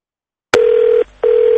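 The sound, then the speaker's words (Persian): A telephone line clicks on, then a steady electronic tone sounds, breaks off briefly, and resumes—a loud, sustained ringback or dial tone pattern with no voices. “همینطور پیام های تلفنی زیادی داشتیم.”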